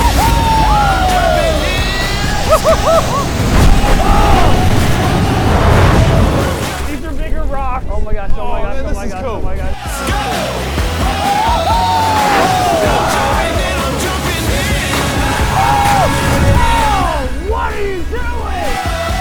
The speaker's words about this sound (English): If these guys get scared, what should they do? Scream.